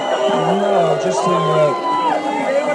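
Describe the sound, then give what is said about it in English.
A large crowd in London, at the introduction of the 2004 film The Libertine, reacts loudly and continuously to a mention of Donald Trump with a mix of cheering and booing, many overlapping voices, some low and drawn out, others higher and whooping, blended into a dense roar. “And they kind of cheer and boo at the same time.”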